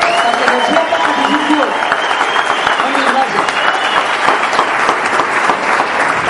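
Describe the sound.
Loud, sustained applause from an audience, a dense wash of many hands clapping at once for several seconds, with voices faintly mixed in underneath.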